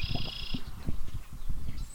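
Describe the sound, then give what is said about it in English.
Many different birds call outdoors on a prairie: a high, buzzy trill rings for about half a second, then a faint chirp comes near the end, all over steady low thumping and rumbling. No one speaks. “I don't know if our listeners can hear it, but there are many different birds calling around here.”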